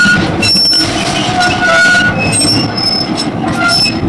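A tram rumbles past a crowd of protesters, its wheels screeching in high, sustained tones over a steady low roar, with a brief horn-like blare mixed in. No one speaks.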